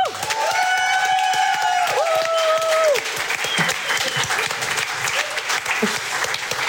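An audience claps steadily for the game leader of a show in a dense, loud wash of applause, with a few whistles and cheers rising over the clapping before it tapers slightly near the end.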